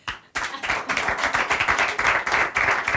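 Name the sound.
audience clapping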